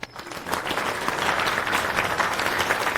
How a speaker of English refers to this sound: Maybe first a round of applause to this person, yeah, because he thanks. Built the EventBridge plugin.